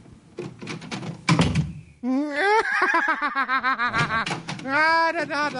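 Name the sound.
door opening and closing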